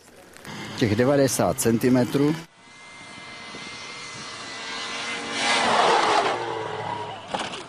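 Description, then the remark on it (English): A person speaks briefly, then a tracked snowmobile with two tractor treads, leaving a path 90 centimeters wide, drones steadily, its engine swelling louder as it passes by before easing off, a continuous rumbling roar with a whining tone. “The first to have this snow machine around here was the Mountain Rescue.”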